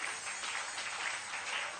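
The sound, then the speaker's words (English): A crowd claps steadily to welcome an arriving guest being ushered to a seat, a dense, continuous patter of many hands that holds an even level throughout without pausing. No one speaks over it. “Clap for him and let him come.”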